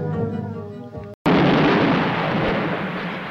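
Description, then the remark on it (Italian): After a brief tonal sound and a split-second of silence, a loud cannon blast erupts and rolls on as a sustained roaring rumble, with no voices present. “E che c'hanno i cannoni da Navarone questi? A Calabre! Che cazzo spari a Calabre?”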